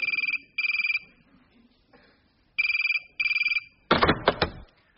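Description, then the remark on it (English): A telephone in Salisbury rings twice in the classic double-burst pattern, loud, then a sharp clattering click cuts in as the line is picked up by an answering machine. “Now, over to an answer phone in Salisbury.”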